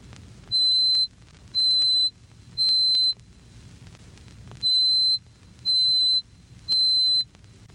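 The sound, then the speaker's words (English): A piercing, very high pure tone at 4,186 cycles per second, the pitch of C8, the piano's highest note, sounds in six even bursts, two groups of three separated by a pause, over a faint low rumble. “Doubling this twice more to 4,186 cycles per second, we reach C sub 8, which forms the highest note on the piano.”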